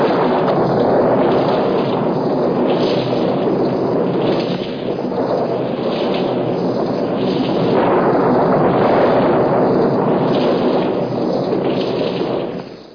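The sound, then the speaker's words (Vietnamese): A loud, continuous storm roar with rumbling thunder, lightning strikes and heavy rain, swelling in repeated surges across the whole stretch with no quiet gaps and no voices. “Chúng gây ra một trận bão khủng khiếp và phóng những tia sấm sét xuống quanh Ngài.”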